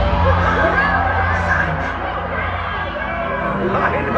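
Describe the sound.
A crowd cheers and whoops steadily for about four seconds, a dense, loud wash of voices with occasional higher shouts rising above the roar.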